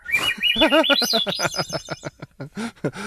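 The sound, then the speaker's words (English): Seagulls calling in a fast, overlapping flurry of harsh, squawking cries, loud, with the calls growing choppier and more spaced toward the end. “And it is crazy because there are so, I'm like, where are all of these seagulls during the game? Because they just descend like they...”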